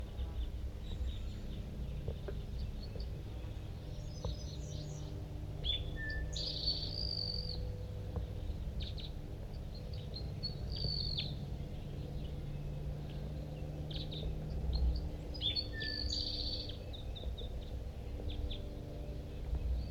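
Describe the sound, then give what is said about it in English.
A male crossbill sings two short bursts of high, chirpy notes several seconds apart, set against a steady hiss of insects and low background rumble. Nobody speaks. “I'm going to record that male.”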